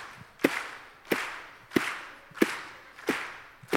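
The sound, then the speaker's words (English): A group claps to set a tempo for the drums: six sharp hand claps land at a steady, even tempo, a little over half a second apart, each with a brief ringing decay and no voices in between. “Can I get a tempo with you guys? Clap your hands like this.”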